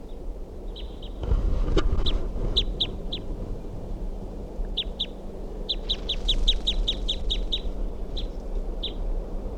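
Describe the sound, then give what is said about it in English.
A wild female bird calling in quick, high-pitched chips, repeated in bursts and rapid runs of a dozen or so notes, over a low steady rumble of background noise. “And that's the wild bird.”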